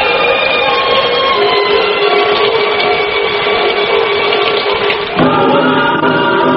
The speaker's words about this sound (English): we're just going to pick up a little bit of the sound of the rain on the street there. And we thought you might like to hear how the rain's coming down outside our station. This is what it sounds like outside the Rock House on Bride.